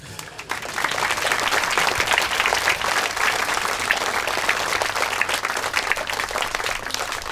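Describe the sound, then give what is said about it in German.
Sustained applause from an audience, a dense wash of many hands clapping steadily and loudly for several seconds, starting almost immediately and holding an even level throughout. “Applaus nehmen wir immer.”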